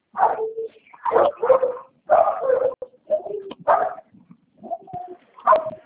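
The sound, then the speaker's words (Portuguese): Dogs bark inside a house in a rapid, irregular series of sharp, fairly loud yaps and woofs, with brief pauses between bursts and no talking. “Os cachorros dentro de casa, a gente fica em casa.”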